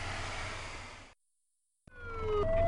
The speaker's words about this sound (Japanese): さあ、モニター用に小さくなっているサイレン、そしてその鐘、消防分団の、消防車に皆さん試乗します。